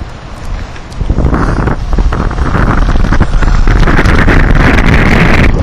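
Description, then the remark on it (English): A loud, continuous rush of ocean surf at night at Emma Wood, heard from a bike path below the 101 highway near the water, swelling after the first second and holding steady, mixed with gusty wind buffeting the microphone. No one speaks. “Kind of an eerie glow from all the motorhomes parked here, the rush of the ocean, and the bike path.”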